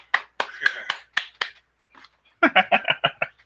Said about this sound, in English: Number 16, and it's 16 minutes left on the show. That's awesome. I have to give myself a round of applause.